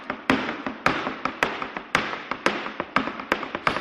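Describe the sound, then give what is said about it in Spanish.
Flamenco heel tapping in a fast, steady rhythm: sharp, bright clacks with louder accented strikes about twice a second and quicker lighter taps in between, with no voices. “Bueno, esto es un taconeo, ¿no? Sí. De flamenco, ¿no?”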